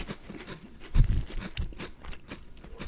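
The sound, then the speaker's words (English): Crisp, thin packaged cookies being crunched: a run of sharp, crackly bites and chews, with the loudest crunch about a third of the way in, then softer crackling. “They are crispy crunchy. These are not chewy at all, which I actually do like, because everyone knows chewy soft packaged cookies are terrible.”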